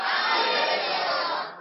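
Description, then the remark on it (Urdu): A crowd of many voices shouts the religious slogan "Faizan Data Ali Hajveri" together in one loud, sustained roar that holds steady for over a second before tapering off slightly at the end. “نعرہ لگائیں، فیضان داتا علی حجویری.”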